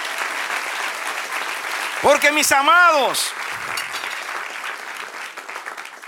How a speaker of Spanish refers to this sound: cada aplauso es un brindis con el Señor. Brindemos. Brindemos.